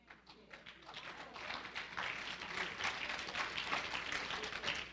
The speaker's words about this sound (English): I love faint claps. Because that means you're thinking and you're convicted.